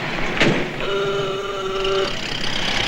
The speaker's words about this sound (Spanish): baja del coche por la puerta trasera.